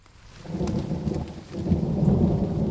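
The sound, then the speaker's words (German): Deep thunder rumbles steadily beneath a dense wash of heavy rain, the low roar swelling and building louder toward the end, with no voices present. “Wenn es so regnet, schlechtes Wetter gibt, dann donnert es oft.”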